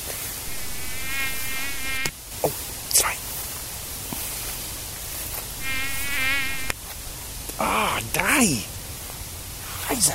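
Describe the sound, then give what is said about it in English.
A thin, high-pitched whine of mosquitoes biting a person buzzes in two drawn-out passes in a backyard, set against a steady hiss of wind-like background noise with a few soft, brief vocal sounds. “These mosquitoes are biting me.”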